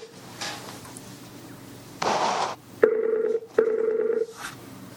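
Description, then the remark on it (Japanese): An outgoing Skype call ringing tone plays in two steady, fairly loud bursts, each a warbling electronic tone about two-thirds of a second long, after a brief shuffling noise. “ということでコールしてみましょう。 はい、じゃあ電話かけちゃいますよ。”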